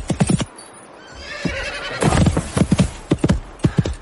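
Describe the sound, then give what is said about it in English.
Hooves of a horse named Scepter, being ridden toward a ravine, clop in quick rhythmic bursts, broken midway by a loud whinny, then the galloping clatter resumes. No one speaks. “If the horse can, I can.”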